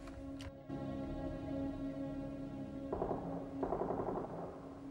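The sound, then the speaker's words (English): Gunshots crackle in quick, rapid bursts, rattling like automatic fire over a steady low rumble and hum. No one speaks. “I thought I heard gunshots. A couple of streets back, maybe?”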